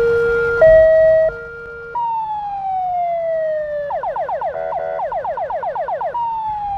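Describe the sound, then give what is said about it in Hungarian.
A loud siren from a donated fire engine being tried out by children runs through several patterns: a brief two-tone honk, a long falling wail, then a rapid warbling yelp, with an engine rumbling underneath and no talking. “A gyerekek ki is próbálhatták a tűzoltóautót.”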